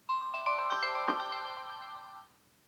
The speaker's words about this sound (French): Pour éteindre le lecteur, je dois maintenir enfoncé ce même bouton pendant 3 secondes. Une autre sonnerie se fera entendre. Le lecteur est maintenant éteint.